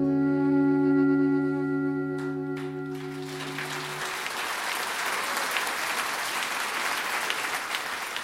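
A sustained musical chord fades out over the first few seconds as audience applause swells in, a dense, steady clapping that continues loudly to the end.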